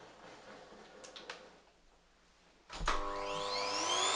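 After a few faint clicks, a vacuum cleaner switches on with a sudden thump, its motor whine climbing in pitch and then roaring steadily and loudly until the end, running as background noise during a microphone recording test.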